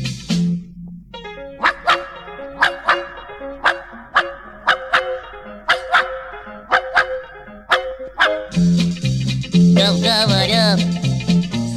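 A dog barks over and over in a steady rhythm, more than a dozen sharp, clear barks set against sustained musical tones, with the music swelling louder near the end.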